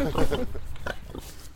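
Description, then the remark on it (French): Pigs on a farm grunt in a series of short, rough snorts, heavier at first and then spaced out irregularly over a low outdoor rumble. “Les cochons.”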